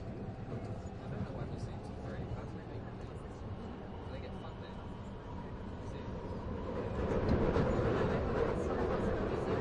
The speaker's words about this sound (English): This is a Victoria Line train to... Please stand clear of the closing doors.